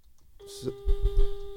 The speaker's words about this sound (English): What do we got? Is that your? May I have your attention? Oh, fire drill.